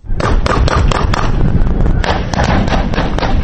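Scattered gunfire in parts of western Kabul: sharp cracks pop out in an uneven series, roughly ten shots in a few seconds, over a loud, steady rush of background noise.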